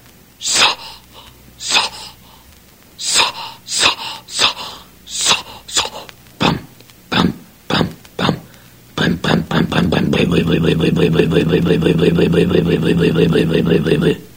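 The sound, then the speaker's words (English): The cold engine of the boat Bluebird, at a dock, is cranked over and over with the spark advanced and more choke, in a dozen or so sputtering, uneven bursts, then it catches and settles into a loud, steady, throbbing run. “You could hear it were cold, so I advanced the spark and gave it more choke and cranked her up in earnest.”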